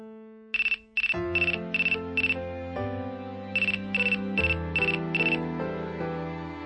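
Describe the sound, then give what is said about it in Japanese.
A mobile phone email notification ringtone plays alone: bright repeated electronic chirps in two bursts of five over a cheerful synthesized melody with steady bass, fairly loud. “え？携帯メール？”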